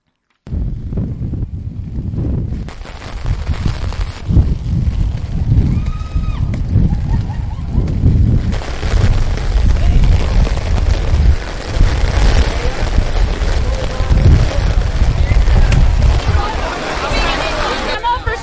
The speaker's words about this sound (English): You'll hear the wind and the rain, along with exuberant voices of people at Foodies and Brew in downtown Ames on Friday night.